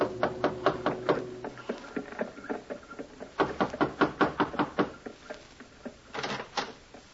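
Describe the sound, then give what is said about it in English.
Repeated knocking on a door in a more or less fashionable part of town, fairly loud, in several quick runs of sharp raps separated by short pauses, the last burst briefer and softer; no one speaks. “Instead, he called a hansom, gave the driver an address, and was driven to a more or less fashionable part of town, gave the driver his fare, received a wink in return, and knocked on a door.”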